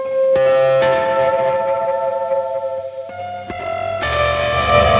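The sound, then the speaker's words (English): An electric guitar plays a song intro tone, ringing out sustained chords drenched in reverb and echo panned to one side, changing several times with sharp attacks and swelling louder near the end. No one speaks. “there's some good like different tones going on in this song where, you know, you need the intro, which is really. So you got the reverb going to one side.”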